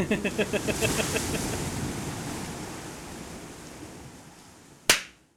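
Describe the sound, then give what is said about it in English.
A single sharp, clean hand clap cracks out near the end, standing alone above a steady rushing, surf-like wash of noise that opens with a brief run of quick tonal pulses. “Oh, that's a good clap.”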